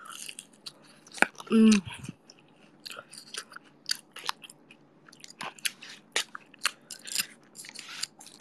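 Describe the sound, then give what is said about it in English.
Wet, crunchy chewing and biting of spicy food repeat irregularly throughout, with sharp clicks and smacks and one louder, thicker crunch early on, all without any speech. “When eating spicy, don't ever drink.”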